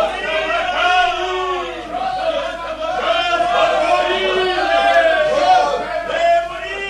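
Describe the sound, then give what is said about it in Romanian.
A crowd of demonstrators shouts together, many raised voices overlapping in a loud, steady roar with rising and falling chant-like swells throughout, no single voice standing out. “Fac iluminați și manifestații pentru că am reușit la lege!”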